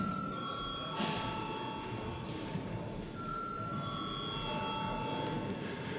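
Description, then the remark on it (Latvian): A continuous electric bell rings steadily for several seconds, its bright metallic tone sustained without pause over a low murmur of background noise, calling a secret-ballot vote in the Saeima, the Latvian parliament. “Lies lūdzu zvanu.”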